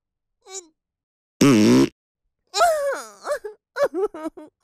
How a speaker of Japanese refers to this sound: おなら出そう。